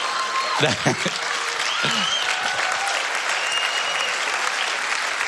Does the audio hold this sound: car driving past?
no